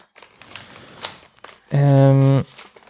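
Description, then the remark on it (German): Gift paper rustles and crinkles with a few sharp crackles for over a second as a present is unwrapped carefully so the paper can be reused, then a loud, steady hummed vocal tone holds briefly before the quiet paper sounds resume. “Ist immer schwer aufzumachen, weil es muss ja auch irgendwie schön aufgemacht werden, sodass man auch das Papier noch benutzen kann.”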